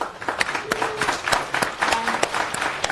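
An audience applauds, many hands clapping in a dense, irregular patter that holds steady for the full three seconds at a moderate volume, with sharper individual claps popping out of the wash.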